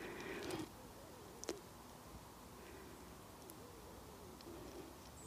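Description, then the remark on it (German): Soft, quiet bird calls drift through a quiet outdoor ambience, with a few faint coos or hoots and a brief chirp standing out against low background hiss. “Und dann nimmst du die Schallwellen, ob es jetzt von meiner Stimme ist, die Schallwellen, oder vielleicht jetzt auch von Vögeln, die ganz ruhig sind.”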